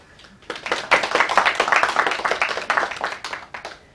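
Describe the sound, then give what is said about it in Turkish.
An audience claps together in a dense burst of applause after a poem is recited, many hands overlapping into a steady crackling wash that swells quickly, holds for about three seconds, then thins out and fades. “Arkadaşlar, burada alkışlıyoruz.”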